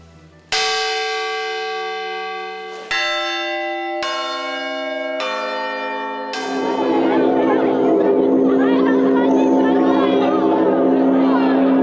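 Russian Orthodox church bells ring out in a sequence of five or six distinct strikes, each leaving a long shimmering resonance, then several bells clang together in a dense, loud peal.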